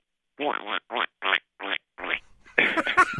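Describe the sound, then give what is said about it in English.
A person imitates a frog-like call that sounds a bit like a duck, slightly high-pitched and delicate, with five short, nasal, quacking vocal bursts in a steady rhythm, fairly loud, followed by a brief noisy burst of voice or laughter. “Actually, I'll try to make the sound for you, but it sounds a little bit more like a duck if you can translate it into a frog.”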